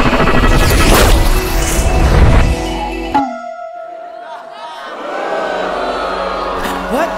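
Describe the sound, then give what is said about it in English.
A loud crowd boos at someone dabbing, in a dense, roaring wash for about three seconds, then cuts off abruptly into a brief ringing tone, followed by a quieter, rustling murmur. “Why is the crowd booing?”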